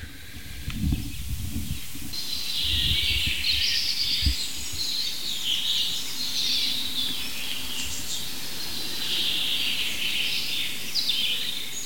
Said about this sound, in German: Hoffen, dass der Wind nicht allzu laut ist. Und nähern uns mal dem ersten Buchfink. Und wir werden uns mal von Fink zu Fink hangeln und gucken, was wir aus diesem Richtmikrofon rausholen können, technisch.